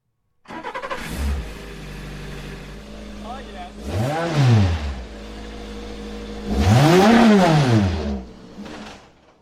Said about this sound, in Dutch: Nee, dit is deze verbrandingsmotor die je net hoorde brullen